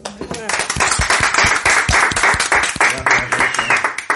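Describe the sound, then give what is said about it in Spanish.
Audience applause: many hands clapping in a dense, steady wash of sharp claps, fairly loud throughout, with voices faintly mixed in underneath. “Gracias por estos muy merecidísimos aplausos.”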